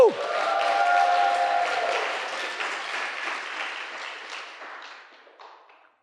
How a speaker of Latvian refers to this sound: Un tad uztais aplausus viņam un skaļus saucienus.